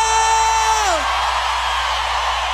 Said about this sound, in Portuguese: Hey! Quem gostou, solta o grito.